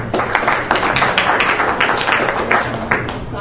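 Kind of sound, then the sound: crowd, audience clapping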